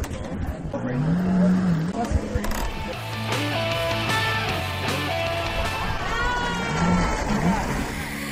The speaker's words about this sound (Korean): 4살 된 조카까지 무사히 제트스키를 탔는데요. 물론 쉽지는 않았습니다.